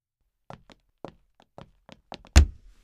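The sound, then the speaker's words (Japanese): A hand slams hard against a wall in a kabedon (wall slam) with one loud thud, preceded by a scattered run of softer taps and knocks; no voices are heard. “壁ドーン。”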